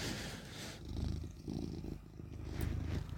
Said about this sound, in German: Oh, ich höre den Kater. Hallo, Kater.